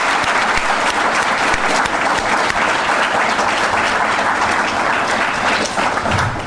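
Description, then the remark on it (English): Sustained audience applause for the young people who presented at the evening's program, a dense, steady wash of many hands clapping at an even loudness for several seconds, with no one speaking over it. “Don't you think they did a great job tonight? Let's give them all a round of applause.”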